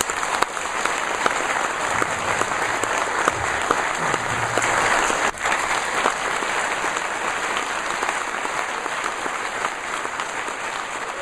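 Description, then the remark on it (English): Sustained audience applause for Mark Shuttleworth, founder of Canonical, at his keynote speech at the Ubuntu Developer Summit, a dense steady wash of many hands clapping at a fairly loud, even level for the whole stretch, with no voices standing out. “Big round of applause for Mark Shuttleworth.”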